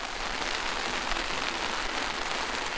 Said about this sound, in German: Plötzlich ein lautes Trommeln auf dem Blechdach. Letzte Auswirkungen vom Monsun.